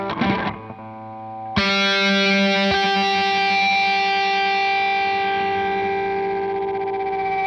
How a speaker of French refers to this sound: Avec un petit Larsen qui va bien, c'est Oh déjà là là. beaucoup plus propre.